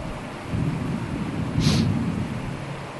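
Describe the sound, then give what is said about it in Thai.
Steady rain hisses throughout, with a low, continuous rumble of thunder underneath that swells slightly midway. No voices, just the storm. “ไผว่าฝนสิบ่ตกว่าฮ้อนน้ํามันต้องตกไป”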